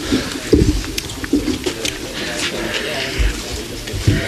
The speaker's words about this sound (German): Fahren ein bisschen Wasser. Das ist Wasser.